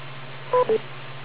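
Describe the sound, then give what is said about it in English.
A radio repeater beep tone: two short electronic beeps in quick succession, the first slightly higher in pitch than the second, sounding over a steady low hum with no talking. “tell me what you think you've heard so far, and wait for the beep, and don't time out like I just did”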